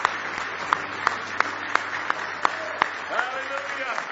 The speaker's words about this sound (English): Say hallelujah. Now give him a big hand clap of praise.